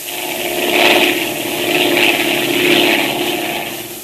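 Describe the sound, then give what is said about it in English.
An airplane engine drones steadily in flight, a continuous mid-pitched roar that swells and fades gently in slow waves, fairly loud, with no voices. “At just that moment, the pilot discovered that the undercarriage of the plane had been tampered with, that it was impossible to lower the landing wheels.”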